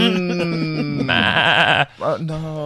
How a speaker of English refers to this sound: Some stray sheep stuck in a fence.